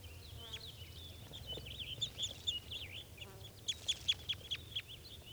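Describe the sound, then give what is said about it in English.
Birds perched in a low spruce calling in short, high-pitched chirps and whistles, scattered at first and then a quick rhythmic run of sharp notes near the end, over a low steady rumble. “So recording, those birds are calling a little bit. They're just perched in a low spruce.”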